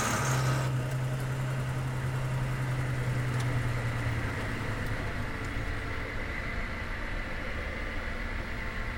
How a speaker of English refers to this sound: Kill the engine.